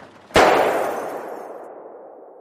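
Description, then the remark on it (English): A single loud gunshot cracks out sharply in an asylum ward, with rain pounding on a window, followed by a long echoing tail that slowly fades over about two seconds. “Everyone in the asylum heard the gunshot.”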